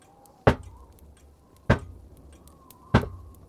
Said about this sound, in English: three short, sharp knocks.